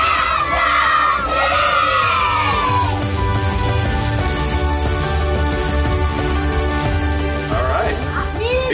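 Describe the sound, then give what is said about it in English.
A large stadium crowd cheers and roars continuously, a dense wash of many voices with shouts and whoops rising above the din, loud and sustained throughout, as fans come through the stadium gate for a Chiefs football game. “made their way through the stadium gate. They cheered.”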